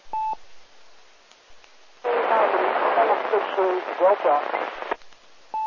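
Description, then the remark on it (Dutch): A weak amateur radio call on the 2-metre band, answering a CQ Meppel net call, buried in hiss and static, an indistinct voice struggling through for about three seconds, framed by short electronic beeps at the start and end. “In de ruis, maar goed wel te nemen.”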